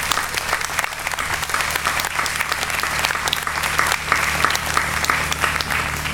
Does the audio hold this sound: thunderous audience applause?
yes